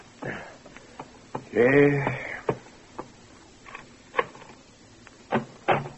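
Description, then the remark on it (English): Scattered sharp knocks pound persistently on a bedroom door at irregular intervals late in the morning, waking a sleeper, with a short voiced sound from someone partway through. “Late the next morning, a persistent pounding on the bedroom door awakes you.”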